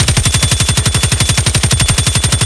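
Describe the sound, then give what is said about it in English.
A man's assault rifle fires on full auto, a loud, steady burst of rapid, evenly spaced cracks, about ten shots per second, continuing without pause for the whole stretch, with no voices. “I'm going to need your roll defense as this man opens up with his assault rifle.”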